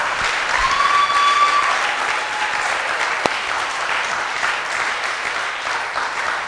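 An audience claps steadily in a dense, continuous wash of applause, loud and sustained for several seconds with no voices rising above it.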